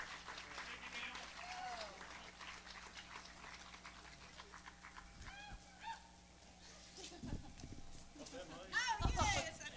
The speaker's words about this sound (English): How about bringing them on with a nice round of applause?